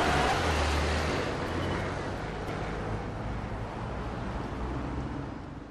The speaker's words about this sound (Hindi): Driver गाड़ी चलाओ। हाँ चलते हैं डॉक्टर साहब।